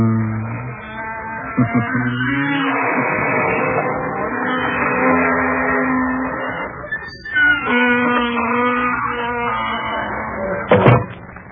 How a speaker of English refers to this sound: Folks, I don't know how you feel, but that spooky bell gave me the shivers.